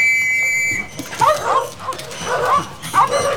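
Terriers hunting rats bark and yip in quick, irregular bursts, several sharp high-pitched calls over a few seconds, moderately loud, after a brief thin whine at the start.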